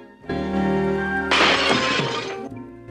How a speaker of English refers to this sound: He carries her over to the bed and she kicks off her shoes. One of them smashes through a glass-topped table.